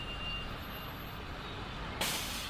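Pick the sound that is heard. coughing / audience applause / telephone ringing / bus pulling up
bus pulling up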